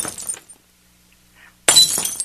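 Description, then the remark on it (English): Glass candles are thrown by a person and smash on a hard floor twice, a crashing shatter, a half-second of near silence, then a second, louder burst of breaking glass with bright tinkling debris. “Should I keep knocking the candles, these glass candles on the floor, so they know where I'm at?”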